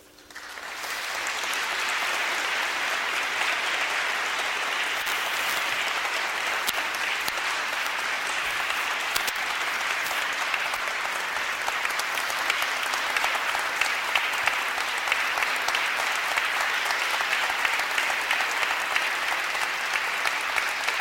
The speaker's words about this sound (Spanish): Ahora ya cuando aplauden nos sentamos, ¿no?